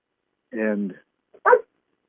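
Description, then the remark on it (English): A dog kept outside a closed door, wanting to come in, gives a drawn-out, wavering whine, then after a short pause lets out a single sharp bark, muffled by the door, with no other sounds around it. “I've got one of our dogs is outside.”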